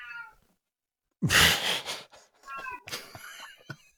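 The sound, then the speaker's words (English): A cat lets out a loud, drawn-out meow followed by a couple of shorter, strained yowls, clear, with a brief quiet pause before the sounds begin. “There he goes. The cat.”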